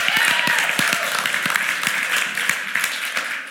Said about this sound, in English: Yeah, so give her a round of applause for just being so cool.